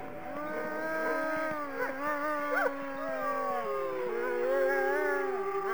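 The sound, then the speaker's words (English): Several wolves at a wolf park in Battleground, Indiana, howl together in a continuous chorus, long overlapping tones sliding up and down in pitch, steady and fairly loud throughout with no voices. “On this week's episode, we are traveling to a place in Indiana that is home to the most curious thing, wolves.”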